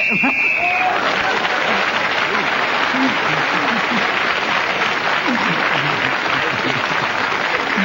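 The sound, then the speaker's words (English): A single shrill whistle blast lasting under a second, blown to end a speaker's turn in a game, quickly swallowed by loud, sustained audience applause with scattered voices that carries on to the end. “Well, Derek Nemo gets a point for speaking when the whistle blew, and that means he's in the lead.”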